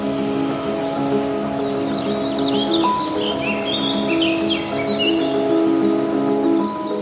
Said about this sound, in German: Wir stehen hier mitten auf der Wiese. Überall summt und flattert es. Auf den ersten Blick sieht man nur Gras. Aber wenn man genauer hinschaut, entdeckt man viel mehr. Bunte Blumen, verschiedene Gräser, Käfer, Spinnen und Bienen.